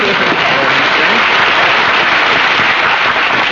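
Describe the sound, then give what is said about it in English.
A studio audience applauds for Mary Livingston steadily, a dense, loud wash of many hands clapping that holds at an even level for the whole few seconds with no pauses. “Mary, we should have applause for Mary.”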